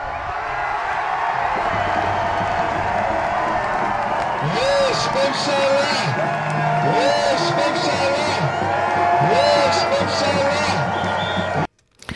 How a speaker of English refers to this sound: Cheers and chants, you hear, yes, Memshala, there is a government, on the streets of Israel, celebrated the announcement of a new prime minister.